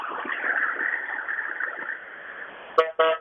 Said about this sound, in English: Excuse me, the bus is passing through.